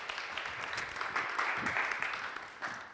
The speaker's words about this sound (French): Voilà, vous pouvez applaudir Sébastien. Il faut l'encourager.